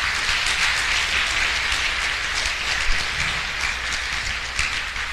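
Sustained audience applause, a dense wash of many hands clapping at a steady, even loudness for several seconds with no voices over it.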